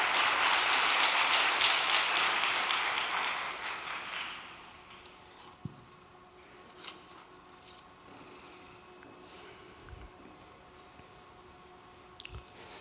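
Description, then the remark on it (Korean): A crowd claps steadily in a dense, crackling burst of applause welcoming a speaker who is about to give a testimony. The applause fades out after about four seconds, leaving near-quiet with a few soft scattered clicks and thumps. “따뜻한 박수로 맞아주시면 감사하겠습니다.”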